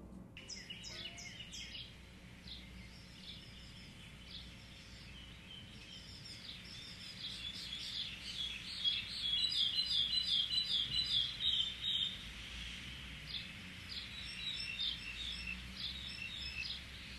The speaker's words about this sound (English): I'd like you to settle in and imagine yourself being surrounded by some beautiful camellia trees and the birds that make them their home. Tune into this.